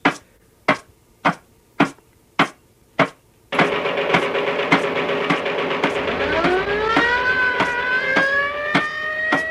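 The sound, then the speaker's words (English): A loud mechanical siren sound effect, played from a record on a turntable, winds up, its pitch climbing steadily over a dense droning roar, right after a run of six sharp, evenly spaced bangs. “I got the machine gun over here on a record. I have the siren over here.”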